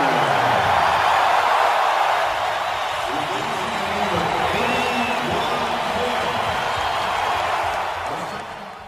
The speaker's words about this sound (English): And Kobe will be replaced. And listen to this crowd for number 8, Kobe Bryant.